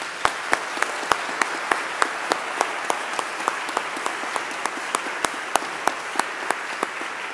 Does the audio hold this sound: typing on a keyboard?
no